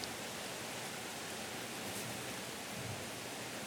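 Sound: rain heard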